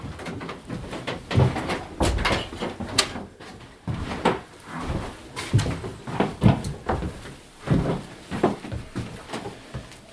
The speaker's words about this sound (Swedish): Så stänger vi den här dörren igen då.